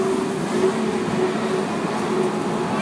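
A steady rumble of a moving theme park parking tram at the Disneyland Resort, en route to the Main Entrance Plaza, with a constant low engine hum and broad road noise rolling along evenly, no voices.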